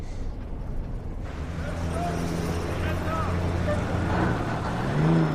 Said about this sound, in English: Their truck pulls up to the border crossing.